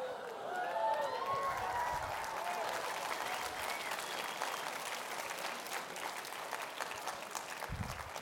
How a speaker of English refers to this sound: Most of the time, they save the applause for after the sermon, but thank you.